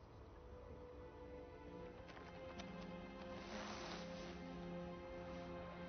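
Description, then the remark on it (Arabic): Horse hooves clip-clop at an unhurried walking pace as the horse is led, soft, over a steady low outdoor rumble with a brief rustling swell midway. “واصل السير أمامي، قود الحصان ولا تخبرا أحدا.”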